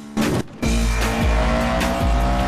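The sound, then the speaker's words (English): A loud, revving sports car engine accelerates hard during a car race, its roar dipping briefly at each of several quick gear shifts before climbing again, with a faint hint of tire squeal. “Brian rapidly shifts gears.”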